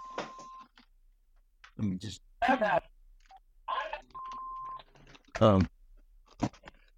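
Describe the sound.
A phone rings with two short, steady electronic tones a few seconds apart, sounding over intermittent speech from a voice.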